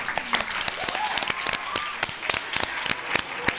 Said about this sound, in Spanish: Yo, igual incluso un aplauso para ella.